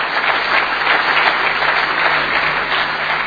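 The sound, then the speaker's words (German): An audience applauds steadily as a jury member of the 3rd Biohandel competition is called onto the stage, a dense, even wash of many hands clapping at a constant loud level with no voices standing out. “Das darf man mit einem Applaus begleiten.”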